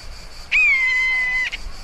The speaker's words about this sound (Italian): Si sente un lamento insistente nell'aria e Manu solleva lo sguardo. C'è un rapace lassù.